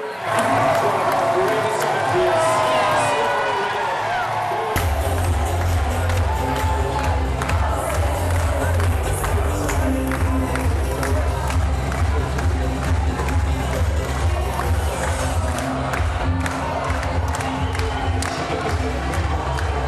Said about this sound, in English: In Skibbereen, they were clapping them home, they were singing them home, they were cheering them on. The sounds in Skibbereen Town Hall as Paul O'Donovan and Fintan McCarthy won gold for Ireland there.